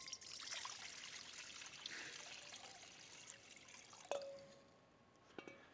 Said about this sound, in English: And then he takes a towel, he throws it on his shoulder, and he takes water, and he simply pours it into a basin.